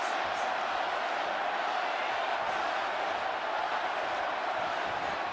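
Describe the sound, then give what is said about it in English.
A huge arena crowd at the Jake Paul versus Tyson boxing match roars and screams "Tyson", a dense, unbroken wall of voices that stays loud and steady throughout, with no single speaker standing out. “This full-throated throng screaming Tyson.”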